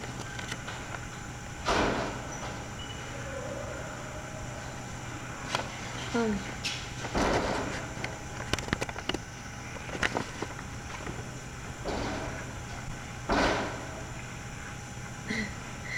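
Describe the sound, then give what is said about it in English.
A door thuds shut and is locked, with a few small metallic clicks like a lock turning, followed by more dull knocks and bumps against a steady low background hum. “Can you shut the door, please? And lock it so nobody else comes in now.”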